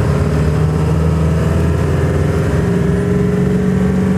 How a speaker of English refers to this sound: And sorry for driving in the truck, making the noise, but I'm really not. I just want to get home at this point.